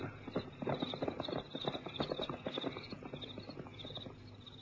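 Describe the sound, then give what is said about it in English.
Steady clip-clop of a horse's hooves on a hard track, a brisk even rhythm, with a faint high chirping or ringing layer above it throughout. “He reined his horse into a walk.”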